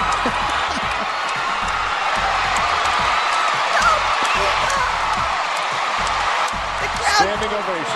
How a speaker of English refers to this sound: The crowd goes wild for Uno, the 15-inch beagle, the first time that the beagle has ever won the Westminster Dog Show.